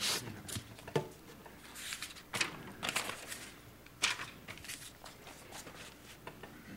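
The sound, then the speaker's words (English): Dry rustling and crinkling of paper as sheets of notes are shuffled and pages flipped, with a few sharper crisp flicks among softer scraping, fairly quiet and with no one talking. “I'm going to get my notes because some of this stuff is way beyond me, like turning the page.”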